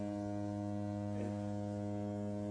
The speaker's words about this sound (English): Is that a foghorn? Am I hearing a foghorn?